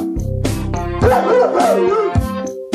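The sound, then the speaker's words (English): A person mimics a dog, letting out a few short, loud woofs over a steady tonal drone. “Woof, woof.”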